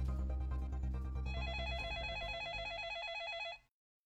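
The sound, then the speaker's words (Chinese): A telephone rings with a rapid, warbling electronic trill, loud, over a low droning background before the ring cuts off abruptly. It is the second emergency call, coming in at 6:14 pm and put through to Sarasota County, which North Port belongs to. No one speaks. “就当警察们还在紧锣密鼓地满世界找人的时候，第二通报警电话在下午的6:14打了进来。”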